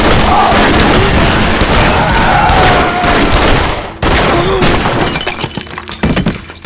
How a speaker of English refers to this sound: It was over in only a few heartbeats. Gunsmoke hung heavy in the low-ceiling post. The reverberating gunshots had caused old birds' nests, dirt, and droppings to fall from the ceiling.